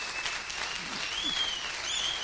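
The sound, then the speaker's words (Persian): Steady audience applause for a guest speaker, a dense wash of many hands clapping at an even level throughout, with a few faint whistles or tonal squeaks rising above it. “خب مرسی، واقعا تشویق کنید”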